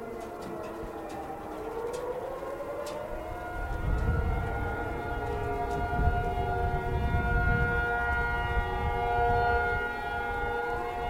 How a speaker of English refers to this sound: Well, today's May the 17th, 2011, and you probably hear some alarms going off. And just like last year, we're now right at the beginning of Taiwan's civil defense system.